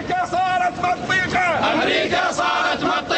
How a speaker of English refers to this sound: Iraqi journalists tell the truth, they chanted, the truth America cannot handle. Later, the small crowd yelled, America is the enemy of God.